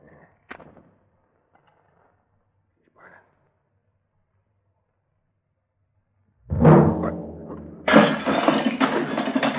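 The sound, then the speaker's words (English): After a few faint murmurs and a long hush, a sudden booming blast erupts from an overloaded explosive charge set off with a fuse, blowing a door clear through a skylight, followed a second later by a loud, sustained crash of shattering glass that keeps clattering to the end. “Blew the door clear through the skylight.”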